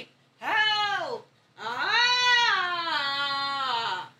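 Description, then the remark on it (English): A cat lets out two long, distressed yowls, the first short and falling, the second drawn out with a wavering, rising-and-falling pitch, with no talking. “She was making the same distressed Dalek sounds that you like.”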